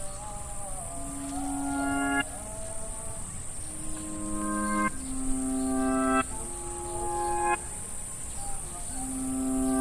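crickets chirping

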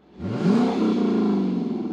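car engine revving

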